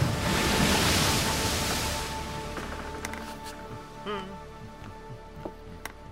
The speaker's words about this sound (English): Doubts and questions nagged at him like the waves that slapped at the bow of his ship.